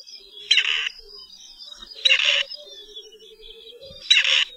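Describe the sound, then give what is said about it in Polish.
Three harsh, grating croaks from a grey partridge, evenly spaced about every two seconds, loud, with faint twittering of other birds in the background. “Jej głos, wydawany przez osobniki obu płci, jest chrapliwy i lekko skrzeczący.”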